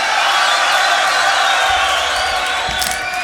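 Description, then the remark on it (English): A large live crowd at the 2019 Grand Beatbox Battle finals in Poland cheers and whoops continuously, a dense, loud roar of many voices with sharp shouts rising near the end. “Crowd, are you ready? Yeah! You can do better than that. Get that energy.”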